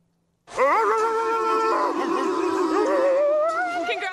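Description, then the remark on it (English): Members of a basketball team howl and bark together like dogs to end their TNT post-game interview after beating New Orleans, a loud, sustained chorus of overlapping wavering pitches, broken by short yips and barks, starting abruptly after a brief silence and continuing to the end. “Except you actually can say that, because they actually do. Listen to them.”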